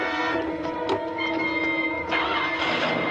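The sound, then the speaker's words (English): A camper van engine starts up and runs loud and steady, a dense humming drone with a rising, revving edge and a few sharp knocks and clatters, no voices. “The sound of the engine alerts Duranian and he runs around the side of the house to see Jason speeding past on a slip road.”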